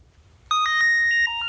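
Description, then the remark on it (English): A phone ringtone starts abruptly and plays a bright, steady electronic melody of sustained tones, fairly loud, with no voices over it. “That's a ring.”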